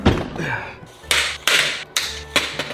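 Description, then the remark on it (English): A cabinet door with a broken lock is tugged open, producing a series of four sharp rattling knocks and thuds about half a second apart, over a low steady hum. “This door over here is not locking. All right, I think this is broken. As you guys can see, this is all the way down. It opens.”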